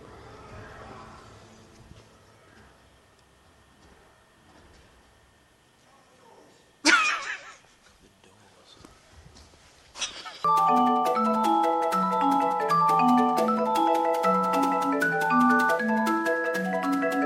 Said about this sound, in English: We're just underneath the cinema we were at, and you could kind of hear some of the Dark Knight Rises. Which part is it? Well, like, clearly it's fine. The final battle scene.